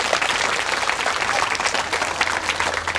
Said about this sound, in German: Habt ihr gehört? Fabi ist der Mann, der das hier technisch möglich macht für uns alle. Also jetzt ein Applaus für Fabi.